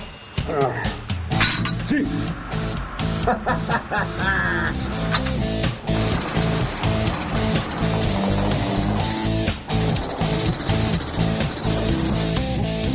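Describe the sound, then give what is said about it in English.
A pneumatic chipping hammer pounds at concrete inside the drum of a concrete truck in rapid, continuous bursts, loud, with harsh clattering and a metallic ringing. “if you're a concrete chipper working in the drum of a concrete truck, you can see the exit”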